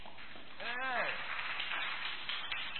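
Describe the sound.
Steady, dense clapping from a crowd giving a round of applause to a team fills the whole stretch, with one voice letting out a brief rising-then-falling whoop early on.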